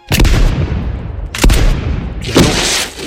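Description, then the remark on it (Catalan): Three loud, booming gunshots fire about a second apart in a pistol duel at sunrise, each followed by a long, rumbling echo that fades slowly. No one speaks. “Però què, disparen canons o què?”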